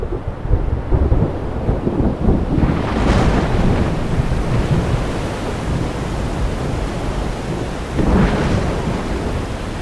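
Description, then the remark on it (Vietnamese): Heavy rain pours down in a steady, dense roar while low thunder rumbles underneath, with brighter swells around the third and eighth seconds; no voices, just the loud storm. “Đêm hôm ấy, một cơn dòng thổi qua thành phố mưa như trút, suốt 7 ngày đêm vẫn không ngớt.”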